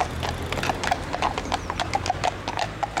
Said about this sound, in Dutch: Laat die man met zijn paard en wagen erdoor.